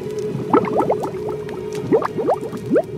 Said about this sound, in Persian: هنگامی که در جهنم افکنده شوند، صدای رعب‌انگیزش را بشنوند در حالی که پیوسته می جوشد.